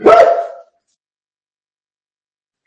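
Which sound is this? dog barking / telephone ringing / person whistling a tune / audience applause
dog barking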